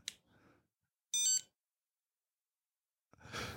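A single short, loud burst of a telephone ring in the background cuts in with a bright metallic tone, followed by silence and then a breathy, rustling noise.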